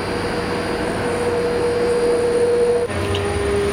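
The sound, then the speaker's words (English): A sample warping machine runs steadily at high speed, giving a loud, continuous mechanical roar with a sustained high whine. The sound is constant, with a brief shift near the end, and no talking. “There are almost no limits in terms of sample warpers.”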